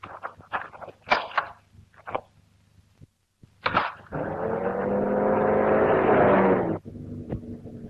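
A few sharp clicks and knocks, then a car engine roars up loudly for a few seconds before dropping to a lower, steady idle.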